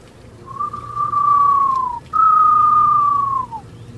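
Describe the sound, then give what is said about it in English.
Two long, steady whistled notes imitating a screech owl call, a birdwatcher's bird call used to draw out species at Birmingham's botanical gardens, each holding a mid-high pitch and sliding slightly down at the end, with a brief gap between them over faint background hum. “That noise simulates the sound a screech owl makes.”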